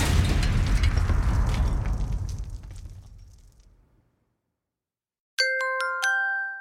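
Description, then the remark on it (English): A loud explosion sound effect bursts out and rumbles away, fading over about four seconds into silence, then a bright two-note chime rings out. “Well, that could cause an explosion.”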